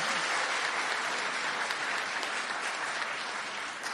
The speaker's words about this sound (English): Okay, well done. I think you deserve a clap.